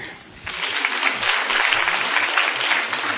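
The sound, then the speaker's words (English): A crowd breaks into applause as a second speaker, a compulsive overeater, is introduced; a dense wash of many hands clapping that swells after a brief quieter start and holds steady, with a faint voice briefly underneath. “Oh, don't applause.”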